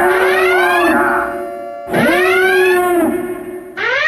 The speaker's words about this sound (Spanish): ya oyeron las campanas.